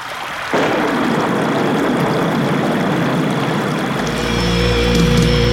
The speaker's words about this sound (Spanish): Qué triste se oye la lluvia.